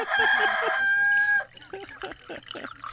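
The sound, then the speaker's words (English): A loud rooster crow sound effect rings out in one long, strained call lasting over a second, then cuts off as a man starts talking. “Hit that rooster again.”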